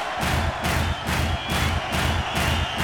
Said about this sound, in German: Mit dem rechten Fuß auf den Boden stampfen!